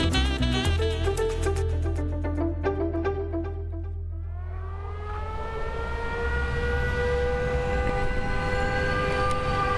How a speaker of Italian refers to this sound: Sirene antiaeree che annunciano gli attacchi, i generatori ausiliari, i piccoli generatori portatili agli angoli delle strade, le liturgie delle feste e dei canti. Sono le sonorità di un Natale sfollato come tocca in questi mesi a tanti in Ucraina.